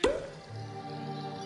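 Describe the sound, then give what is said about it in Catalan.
A single sharp cork pop opens the moment, with a brief hollow, resonant ring dropping in pitch, then a soft, steady low tone lingering quietly afterward. “Destapa.”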